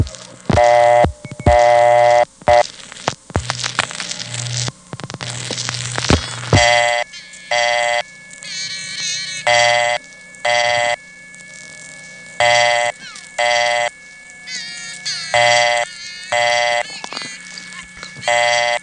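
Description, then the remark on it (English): Coin tones of the newer totalizers, 1700 and 2200, from a payphone stuck on the line repeat over the phone line as a steady series of short, bright electronic beeps, with a faint continuous tone behind them and a few sharp clicks at the start. “By the way, that time there definitely was a payphone stuck on the line, because you can clearly hear both coin tones of the newer totalizers, 1700 and 2200.”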